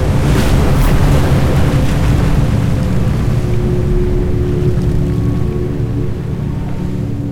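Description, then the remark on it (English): A loud, steady roar of rushing water and ocean surf fills the whole stretch, dense, with a faint low hum beneath and no voices. “Water poured from the glass like a tidal wave.”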